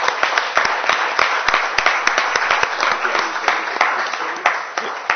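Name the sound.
audience applause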